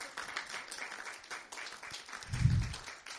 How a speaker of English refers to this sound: You may be seated. Hallelujah. Clap your hands one more time so I know you're happy.